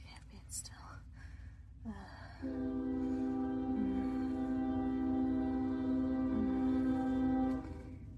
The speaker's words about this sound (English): Oh, there's a train coming, damn it. Oh. I'm gonna pause this. I'm gonna try to be still while the train's going by so you guys can hear everything.